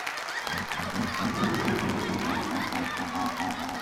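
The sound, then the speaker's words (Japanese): An audience at a stage show cheers and applauds in a dense, steady wash of clapping and raised voices that holds at an even loudness for about four seconds. “ああ皆さん、こんなもったいないばかりの歓声と拍手を送ってくださって本当に本当にありがとうございます。”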